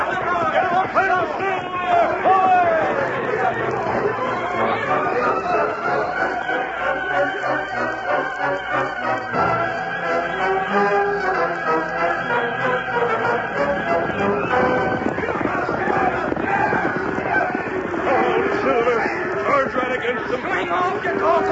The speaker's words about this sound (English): Them cattle are heading straight down the canyon